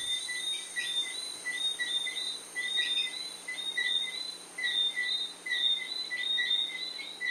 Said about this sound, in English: You made a recording of these frogs in Guyana. Oh, yeah. This was what it sounded like all night long in Georgetown.